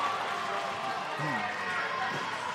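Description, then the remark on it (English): A steady, dense roar of a crowd cheering at a basketball game as York plays well, holding at an even level throughout, with a brief voiced shout rising out of the noise midway. “York's really put it into first gear here. And the crowd is cheering.”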